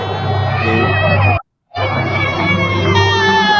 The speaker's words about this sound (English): Check it out. There's a booing.